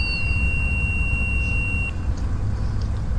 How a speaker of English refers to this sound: Cause then that's just an alarm in the plane telling us that we're 10,000 feet above the ground.